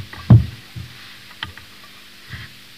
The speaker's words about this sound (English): Touch those cans. Good. Give them a squeeze.